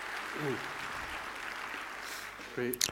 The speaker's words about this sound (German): Applaus bitte.